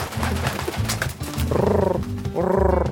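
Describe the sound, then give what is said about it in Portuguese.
A pigeon coos in low, throaty bursts, with a continuous rumbling murmur that swells into two louder, warbling calls near the end. No one speaks. “Mas o pombo parecia mais preocupado em arrulhar e estudar para sua futura carreira de pombo-correio.”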